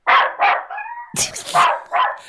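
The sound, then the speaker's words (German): A dog barks in quick, sharp yaps, about five of them with a brief whiny yelp in the middle, sounding thin and tinny as if coming through a phone line. “Hunde können tatsächlich auch Heuschnupfen haben.”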